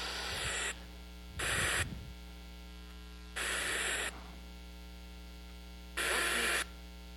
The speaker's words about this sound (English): This is a radio. It was my old job site radio. Let me show you something. If I turn this up, there's static going on in here, right?